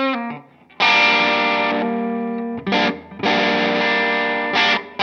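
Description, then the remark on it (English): A heavily distorted electric guitar with a large, surprisingly heavy body plays loud, sustained power chords in a few bursts, with brief pauses and choppy stops between them, with no one talking. “It does all the guitar things.”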